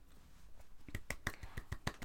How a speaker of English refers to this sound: I don't know why I'm clapping for ourselves, but clap, clap, clap.